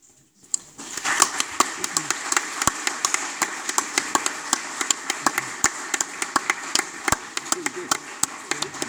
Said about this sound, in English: Just to point out to the council that it's protocol to clap, so that was we were clapping.